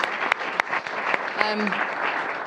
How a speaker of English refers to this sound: So it really is a privilege to have you here with us. Let's give her a round of applause just to make her feel welcome.